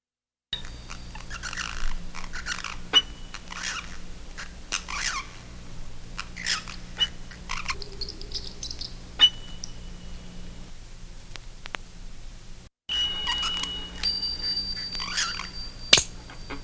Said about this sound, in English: Oh, the sound of that crackle of the LP is so nice. Especially with the little twittering of the bird. It fits in perfectly.